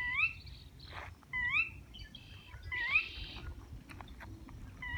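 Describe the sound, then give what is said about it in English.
An odd, rising, whistled bird call repeats about every second and a half, with other faint calls in between, over a steady low rumble of wind or water. It is heard while walking along the Rio Grande outside Alamosa. “We're walking along the Rio Grande outside Alamosa, and there's this really weird bird sound.”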